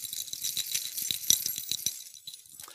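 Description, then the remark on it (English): An audience jingles and shakes many sets of keys together in a bright, continuous metallic rattle, full, with irregular bursts of clinking that fade out near the end. “Well, if you got your keys this morning, let me hear them.”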